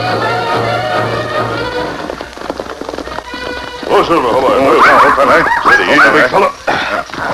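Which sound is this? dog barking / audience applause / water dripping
dog barking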